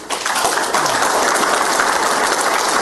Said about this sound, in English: David Hightower, a round of applause.